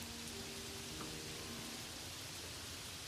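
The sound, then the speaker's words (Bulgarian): Rain falls in a steady, even hiss with no pauses, a dense wash of tiny droplets, and a faint low hum sits underneath for the first half. “Но когато тя слиза, Блейк потегля и оставя да стои на спирката в дъжда.”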